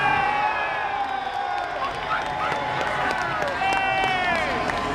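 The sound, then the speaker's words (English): A large crowd of protesters wanting a people's vote cheers and shouts as MPs in the House of Commons vote 202 to 432 against Theresa May's Brexit deal, a steady, loud roar with many overlapping voices rising and falling and occasional high, sliding whoops cutting through. “And you can hear the crowds behind us, this lot, wanting a people's vote.”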